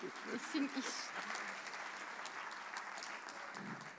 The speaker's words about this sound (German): Applaus, bitte.